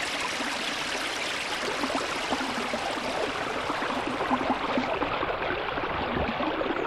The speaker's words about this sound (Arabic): صباح الخير أيها النهر الصغير.